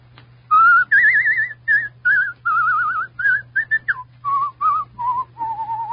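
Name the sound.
person whistling a tune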